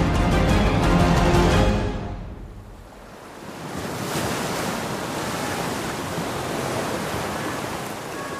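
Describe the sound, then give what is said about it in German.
A heavy wave crashes loudly, then falls away into a steady, rushing roar of rough, stormy water and wind: meter-high waves slapping against a small fishing boat out on the water in a storm. No voices. “Meterhohe Wellen schlagen gegen das kleine Fischerboot, das mitten auf dem Wasser im Auge des Sturms schwimmt.”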